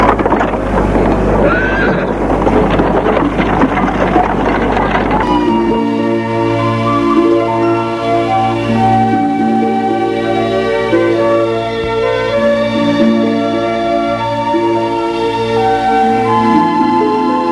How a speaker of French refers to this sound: Monté dans le fiacre et parti.